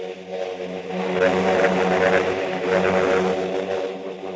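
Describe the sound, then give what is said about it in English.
A steady, droning engine hum of aircraft passing overhead, swelling slightly in the middle and holding a continuous layered rumble throughout, with no voices. “The sound of peace is the drone of planes with quiet cargo.”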